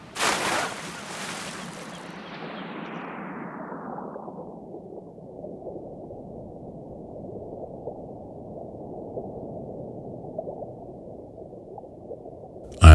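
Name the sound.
diving into water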